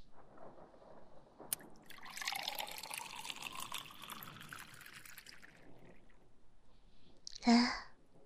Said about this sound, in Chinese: 白开水才是最健康的哟。来，我给你倒点水。